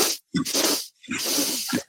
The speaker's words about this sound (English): And with this breath, breathing technique is inhaling three breaths through the nose and then exhaling out the mouth with sound. Let's give it a try here. Inhale.